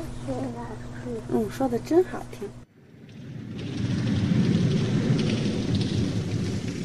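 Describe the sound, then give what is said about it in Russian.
After a brief voice at the start, steady heavy rain swells in and keeps hissing, with a low rumbling undertone like thunder. “Сегодня идет дождь, поэтому ему нельзя гулять на улице.”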